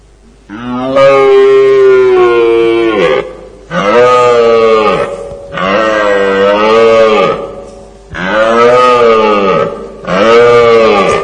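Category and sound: animal, red deer stag roaring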